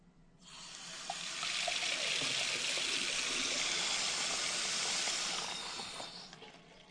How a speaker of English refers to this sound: And if you didn't think the toilet flushing was, as the lawyers like to say, dispositive, how about the water running down the sink?